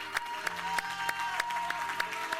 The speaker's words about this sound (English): Let's give the Lord another round of applause in the house today.